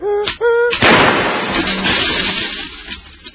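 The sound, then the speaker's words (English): In a 1973 Cheech and Chong comedy recording, a doctor strikes one heavy hammer blow to free objects wedged in a boy's nose: a loud, booming crash that rumbles and fades over a few seconds. Two short squeaky tones come just before it. No voices. “Hand me that hammer.”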